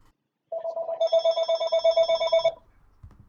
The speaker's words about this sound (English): Whose phone is that? Hold on 1 second. Let me just deal with this real quick.